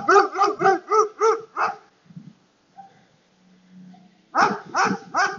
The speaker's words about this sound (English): Not a very happy dog.